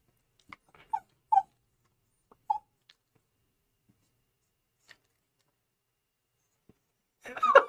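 A male dog whines and whimpers in short, high-pitched yelps spaced across several seconds, ending in a louder, drawn-out whiny burst.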